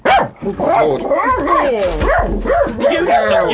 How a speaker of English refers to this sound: The dog just kicked me in the nether regions as he... Hang on, let's shut him up, because otherwise I'm not going to do any podcasting. Shut up! Shut up, Magic